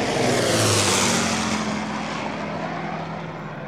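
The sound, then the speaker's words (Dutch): A propeller airplane roars overhead, its steady engine drone loud at first, then easing slightly and dropping in pitch as it passes. No voices are heard. “Nee, en ik kan me ook nog herinneren dat je hoorde dan plopjes en dan werd er geschoten op die vliegtuig.”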